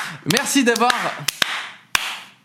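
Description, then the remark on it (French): A short burst of audience applause, a broad wash of noise with a few sharp, separate claps standing out, and voices calling out over it near the start before it fades. “Vous pouvez vous applaudir, bien évidemment.”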